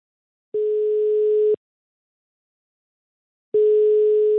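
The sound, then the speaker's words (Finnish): A telephone ringback tone sounds twice while calling restaurant industry advocate Timo Lappi, each steady one-second beep separated by a long silent gap, clear with no voices present. “Olisiko aika hei soittaa niin kuin ravintola-alan ykköstykille ja edunvalvojien kuninkaalle Timo Lapille?”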